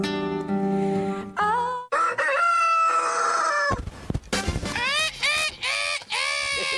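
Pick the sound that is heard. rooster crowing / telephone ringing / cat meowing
rooster crowing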